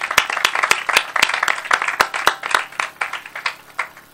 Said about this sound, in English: And I think for all of us here, I think we should, if we can, give this administration a round of applause for what they've done.